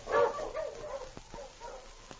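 A husky dog named King gives one loud, tonal bark followed by a few softer, whining yelps as it is urged on, with faint clicks and scuffs between them and no one talking.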